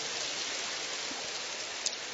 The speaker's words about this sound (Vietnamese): Cho một tràng tay hoan hô thưa anh chị em.